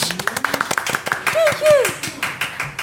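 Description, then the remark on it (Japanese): A quick burst of hand clapping, started by one person clapping for themselves and joined by others: sharp irregular claps from more than one person, with voices talking and exclaiming over them. “自分で拍手してみましたね今ね”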